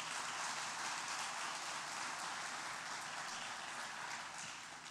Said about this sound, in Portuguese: Ele renova a minha vida, ele me guia por caminhos bons, porque ele é bom. Dá um aplauso a ele por isso.